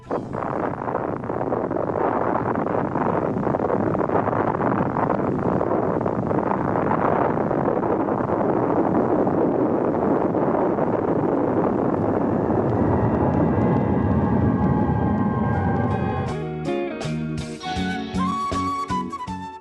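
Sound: atomic bomb explosion recording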